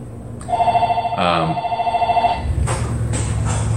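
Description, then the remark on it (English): A telephone rings with a steady, trilling electronic tone for about two seconds, fairly loud, then cuts off as muffled background noise and faint voices continue. “You can get the phone.”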